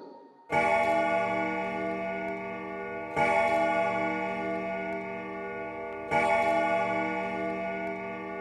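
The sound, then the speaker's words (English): A deep clock bell striking twelve sounds three slow, evenly spaced strokes, each ringing out and lingering before the next, with a faint steady ticking beneath. No one speaks. “The bell struck 12.”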